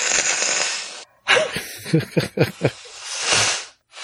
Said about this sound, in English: Hold on, I gotta blow my nose real quick.